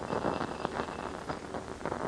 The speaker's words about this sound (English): Yes, that one with the steel filings in it. Yes. Now then, a bit of Chinese magic right before your eyes, gentlemen. I take a handful of these steel filings and scatter them inside the cylinder.